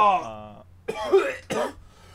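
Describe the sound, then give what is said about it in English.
A man lets out a short vocal groan, then coughs twice in quick succession, harsh, with a brief pause between the two coughs. “And now he's coughing up bullets.”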